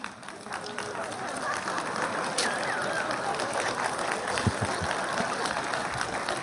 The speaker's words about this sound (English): Now, you're clapping, but I think God includes these names as it's part of his sense of humor, because you can enjoy watching me struggle through pronouncing them.